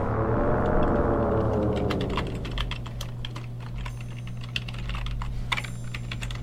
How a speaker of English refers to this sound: Wouldn't be a Bitcoover episode without a little bit of typing.